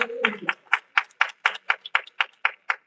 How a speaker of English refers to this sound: Are you glad today with a hand clap? Hallelujah, that he is your Father.